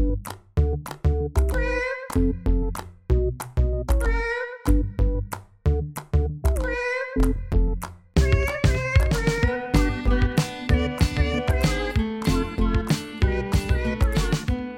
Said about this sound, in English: My operating system now features 17 databases of information on emotions, and I have also added a kitten keyboard. Check it out.